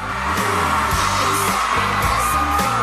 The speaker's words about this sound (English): A very loud applause.